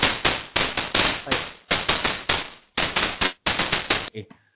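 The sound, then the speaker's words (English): Fireworks going off in a rapid, uneven string of loud cracking bursts, each fading briefly before the next, about nine in all, ending with a smaller, quieter pop. “It's very, very off-putting when you got fireworks going off in your ears.”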